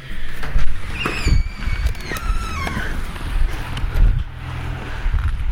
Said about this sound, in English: Sorry for the rustling noises you're going to hear momentarily while I hold this Olympus and get everything arranged.